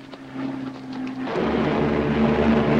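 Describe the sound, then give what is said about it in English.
A propeller plane that has just taken off drones steadily with a low humming tone, then swells midway into a louder, rougher roar. No voices are heard. “The Japanese pilots spot the flying tigers.”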